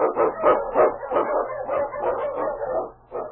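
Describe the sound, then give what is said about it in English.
King, a husky sled dog, barks repeatedly in quick, rhythmic bursts, fairly loud, with no other voices present, as he blazes the trail through storm and snow in the Yukon. “The Wonder Dog King, swift and strongest of Eskimo League dogs, blazes the trail through storm and snow for Sergeant Preston as he meets the Challenge of the Yukon.”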